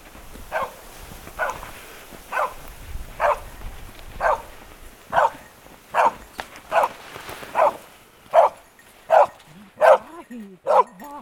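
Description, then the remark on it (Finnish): A dog barks repeatedly from far off, about fifteen evenly spaced barks growing slightly louder and sharper toward the end, with faint ambient noise around them. A search dog wearing a vest has run far ahead and is barking to mark the target it found. “Koira lähti juoksemaan tuonne pitkälle. Haukkuu siellä, eli siellä on ilmeisesti kohde, mitä me ollaan menossa katsomaan.”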